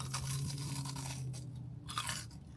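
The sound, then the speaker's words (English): A crisp crunch of someone biting into a pumpkin spice churro, followed by a few seconds of steady chewing with no one talking. “Definitely crunchy.”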